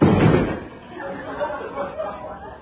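A door downstairs in a house slams hard once at the start, a heavy booming thud that rings out with reverberation, followed by a low muffled murmur of background noise.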